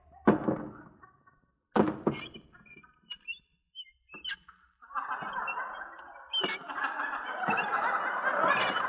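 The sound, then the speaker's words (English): Shoes squeak as someone sneaks up, in short, irregular chirps between a few heavy thumps, growing into a steady squeaky, scraping stream toward the end, with no talking. “My shoes squeak.”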